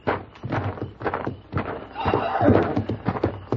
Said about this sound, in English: Wait a minute. Listen. The horses, there's somebody out there.